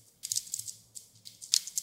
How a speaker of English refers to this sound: I hear you typing.